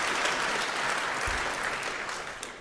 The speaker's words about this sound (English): First, let's give a round of applause for the heralds and the angels for putting up with all this and generally keeping things moving smoothly. So thank you very much.